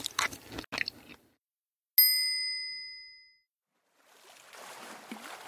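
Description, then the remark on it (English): Brief munching and smacking sounds of eating pie and cream, followed by a single bright bell ding that rings out and fades, then a soft rustling hiss. “The goat has pie and cream.”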